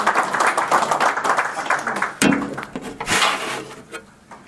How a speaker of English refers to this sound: Let's applaud and welcome him. Yeah, he likes when we cheer for him.